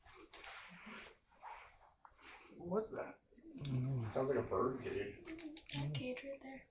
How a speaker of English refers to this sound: What was that? Mm-hmm. Sounds like a bird cage.